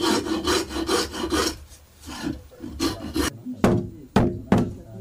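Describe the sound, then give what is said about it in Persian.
Rhythmic rasping as a file scrapes back and forth over the wood of a horse saddle being smoothed and polished by hand, a steady run of strokes followed by a few sharper, separate scrapes near the end, fairly loud. “صیقل‌کاری و تزیین زین اسب زمانگیر است”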